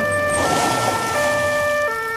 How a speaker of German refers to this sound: Da hört er die Krankenwagensirene. Tatü, tata, tatü, tata.